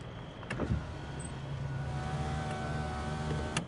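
A car's electric window motor whirs steadily inside the cabin as a window is moved up and down, with soft clicks at the start and end of its travel and a low engine hum underneath.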